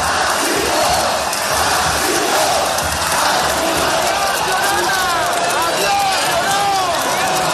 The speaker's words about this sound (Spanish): En paralelo, Cristina Ibarrola abandona el ayuntamiento y lo hace entre gritos de llorona y de agur.